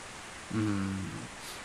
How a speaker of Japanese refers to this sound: ほら、聞いたろ、雨。さっさと止んでくれ。